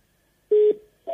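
Electronic phone beeps without any talking: a steady mid-pitched tone lasting about a fifth of a second, then after a pause a second beep begins, like a call-waiting signal on a mobile.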